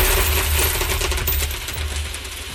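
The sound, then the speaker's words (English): A loud stream of copper coins clattering and jingling as they are poured out to count California's electors, a dense rush of metallic clinks lasting a couple of seconds with no voices. “Now, with the help of some trusty copper coins, these are California's electors.”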